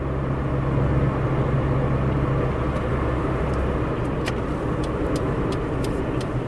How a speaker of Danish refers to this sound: Den lille Hyundai skøjter ind på en lige så hullet vej, bare af jord.